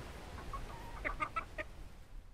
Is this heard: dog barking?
no